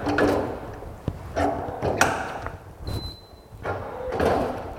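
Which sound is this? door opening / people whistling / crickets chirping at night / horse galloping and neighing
door opening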